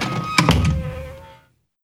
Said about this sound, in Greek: Πόρτα.